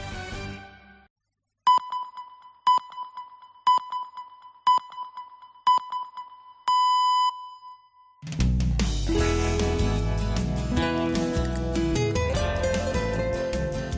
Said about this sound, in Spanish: Oye, ¿a mí que esta sintonía me recuerda a la música de la película El Zorro? No sé por qué.